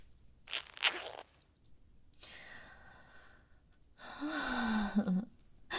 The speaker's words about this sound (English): In that case, I'll undo your zipper and touch you.